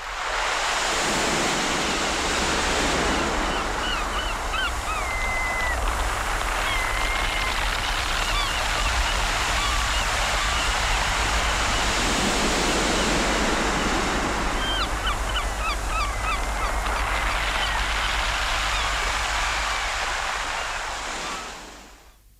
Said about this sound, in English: Just below the Cashin village, the river disgorges into the Shan estuary between Loophead and Kerryhead, and is swallowed up in the waters of the broad Atlantic.